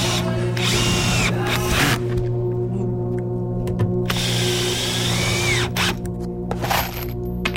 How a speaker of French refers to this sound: Près de toi, au deuxième sous-sol, une jeune femme en débardeur et caterpillar scie du métal. Un casque anti-bruit sur les oreilles. Des gerbes d'étincelles dans le dos.